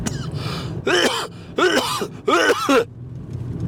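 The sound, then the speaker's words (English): Three loud, raspy coughs from smoking a cigar come in a steady rhythm, each a strained, voiced hack with a groaning edge, separated by short pauses over a low, constant background rumble. “I'm bloody coughing. This bloody cigar's doing a right bloody number on me pipes.”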